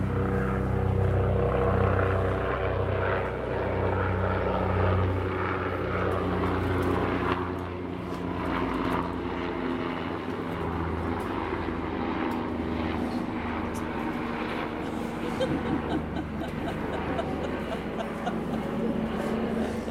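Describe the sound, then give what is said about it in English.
A few helicopters flying overhead, their engines making a steady, droning rumble with a throbbing, humming tone that stays fairly loud for the whole stretch, with no one talking. “And then you're sitting by the tree and there's just nothing to do, quiet, except a few helicopters playing.”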